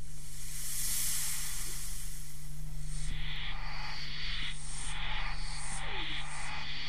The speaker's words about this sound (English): And I think that's one of the really incredible things about the Doctor Who thing. It was all electronic, but it sounds as if it's got an acoustic. The rhythm is provided by a couple of tracks of filtered white noise.